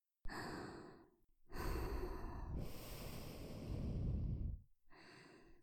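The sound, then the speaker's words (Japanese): Three loud, airy breaths blown out onto someone in a row: a short puff, a long heavy exhale lasting about three seconds, then another breath that cuts off at the end. No voice, only rushing breath noise. “吐息を吹きかけるだけで、頭の先からおちんぽまで、先生に侵されちゃった。”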